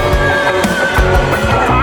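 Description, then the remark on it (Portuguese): A saddled horse neighs loudly, a long wavering whinny that fills the short moment, with dull low thumps sounding underneath. “cavalo arriado.”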